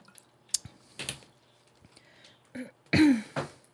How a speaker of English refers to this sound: I'll just sit here and drink some more water.